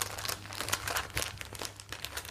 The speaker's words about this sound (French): Et je pense que ma première passion, c'était vraiment le papier, le toucher, l'odeur, les sons aussi. Le son du... Par exemple, le papier de cristal qu'on froisse, j'adore le bruit.